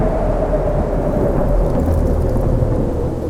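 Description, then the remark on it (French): Thunder rumbles loudly and continuously, a deep rolling roar that fills the whole few seconds, with a steady hiss like rain mixed in. No voices. “Le tonnerre gronde et des éclairs énormes transpercent le ciel noir.”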